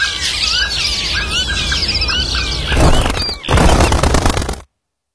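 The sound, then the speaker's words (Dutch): A dense chorus of bird chirps and squeals fills the first few seconds, then a loud rush of flapping wings takes over before cutting off abruptly. “De vogels verdwijnen. Help Vogelbescherming Nederland en zorg dat de vogels niet stilvallen.”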